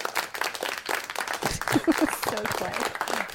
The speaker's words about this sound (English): I know that there's applause on the other one but like guys that give it up though that's not enough applause there we go